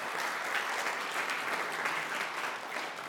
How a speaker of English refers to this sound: Go ahead and clap for the praise team.